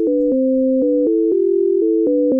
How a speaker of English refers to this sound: Right-handers tend to hear the higher tones in the right ear, while left-handers often hear them in the left.